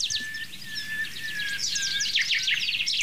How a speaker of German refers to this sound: Bis auf den Buchfink, der immer wieder den gleichen Satz sagt. Hinter mir klingt er.